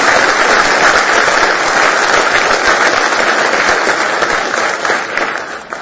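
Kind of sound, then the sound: crowd, audience hand clapping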